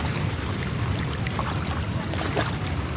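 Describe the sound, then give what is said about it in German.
A tour boat cruises steadily along the Rhine in Cologne, its low engine drone constant beneath rushing water and a breezy wash, with no voices heard. “Das gehört ja wirklich zum typischen Kölner Touri-Programm auf jeden Fall dazu, so eine Schifffahrt auf dem Rhein.”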